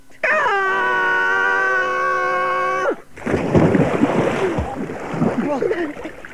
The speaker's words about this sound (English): Ah! A river! At least it was a soft landing! Stop splashing, you silly beaver!